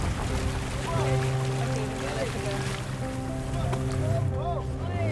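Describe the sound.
A small boat moves across open sea while fishing for flying fish, the whole boat steered to follow the fish as flashlight beams track them: a steady engine drone runs throughout, with a wash of splashing sea noise and faint voices in the background.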